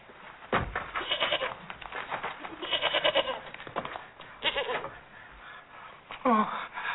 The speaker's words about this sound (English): Yes. A goat.